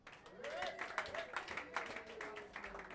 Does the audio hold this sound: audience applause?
yes